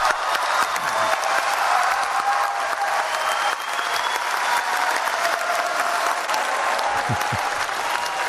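Sustained, loud applause from a large crowd as the Paris Agreement is unanimously adopted, a dense wash of clapping that holds steady for the full duration with a few cheers rising within it.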